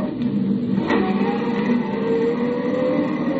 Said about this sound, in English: With every jolt of the car, another Roman candle went off in my head, but I kept the gas pedal jammed to the floor until I saw the turnoff sign for the Austin mine.